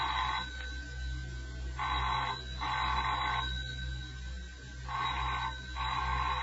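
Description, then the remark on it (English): A telephone rings in repeated double bursts, two short rings, a pause, then two more, fairly loud and clear over a low steady hum, with no one speaking. “I'll get that. You don't have to answer the phones or the front door, ever.”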